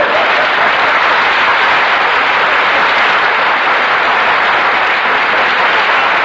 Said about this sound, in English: Don't applaud, please. If you like it, just nod.